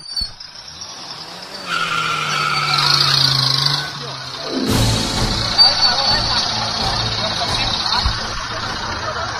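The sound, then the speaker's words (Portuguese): A pickup truck engine, driven by a mayor's security guards, revs hard and climbs in pitch, then a sudden loud crunch of impact as it tears over a roadblock barrier in São José de Ribamar, Brazil, followed by rumbling, scraping road noise with voices in the background. “O prefeito entrou na caminhonete e os seguranças dele saíram rasgando por cima da barreira.”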